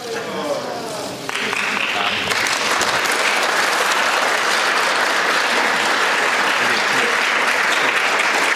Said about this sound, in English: Thunderous applause as you and Senator Ted Cruz stand there.